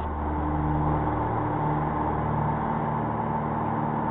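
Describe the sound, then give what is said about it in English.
Steady, loud engine drone of a twin-engine airplane as it rotates for takeoff, with a low rumbling hum and faint tonal whine layered on top, holding constant throughout with no voices. “Let's see, we're going to rotate.”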